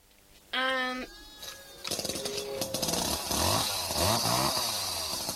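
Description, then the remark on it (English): A chainsaw being tried out sputters briefly, then roars to life and is revved repeatedly, its loud engine whine rising and falling in pitch for several seconds. “Then you could try it out for me. The chainsaw, you mean?”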